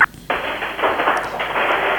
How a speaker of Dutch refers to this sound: Er wordt nu vuurwerk afgestoken, dus ik kan even niet voor de ramen.